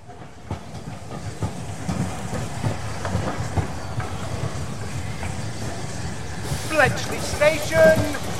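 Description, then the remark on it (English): A train rumbles steadily through Bletchley railway station with a rhythmic clickety-clack of wheels, then high squealing, whistling tones rise over the low rumble toward the end. “Bletchley Station.”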